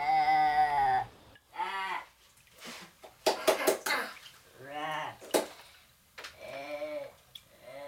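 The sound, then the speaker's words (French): A sheep bleats several times, each call a wavering, quavering cry, with short noisy rustles and huffs in the pauses between bleats. “Ainsi, le bêlement d'un mouton à ton oreille provoque un tel saisissement qu'il occupera ton esprit durant des semaines.”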